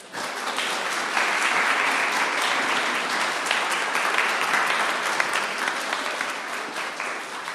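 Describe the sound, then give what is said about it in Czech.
An audience applauds steadily for several seconds, honoring the leader of a band on his 70th jubilee: a dense, even wash of many hands clapping at a fairly loud, constant level with no voices standing out. “tak totiž slaví jubileum za Popozí 3, a to 70 let, a myslím, že to si zaslouží potlesk.”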